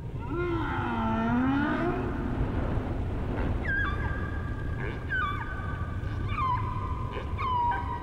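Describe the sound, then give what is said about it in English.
Humpback whale song, a sample from BBC Earth: long moaning, wavering tones that rise and fall, followed by a series of repeated descending whistle-like calls, over a steady low underwater rumble. “If you've never heard a humpback whale, you can understand why Lamia's in this fight.”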